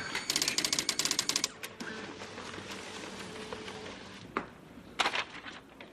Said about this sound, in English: Okay, let's print this baby up.